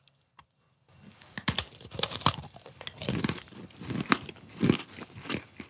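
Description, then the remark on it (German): Loud, crisp crunching from someone biting into and chewing a crunchy, sugary fried pastry for ASMR into the microphone, an irregular series of sharp cracks and crackles with no talking over it. “Und du hast vorher schon gesagt, die werden sehr laut sein fürs Mikrofon.”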